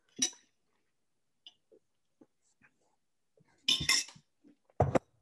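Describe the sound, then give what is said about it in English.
Glassware clinks and clatters as water is taken: one sharp knock at the start, faint small taps, then a louder rattling cluster and a final bright clink, with quiet gaps between. “Excuse me, I need to take some more water.”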